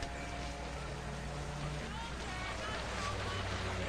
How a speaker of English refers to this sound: Now, offshore, a police boat idles on the water. Two scuba divers roll backwards off the side.